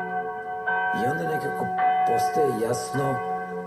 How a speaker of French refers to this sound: Les cloches de Saint-Marc commencent à sonner. Tout à coup, le silence total. On n'entend que des cloches.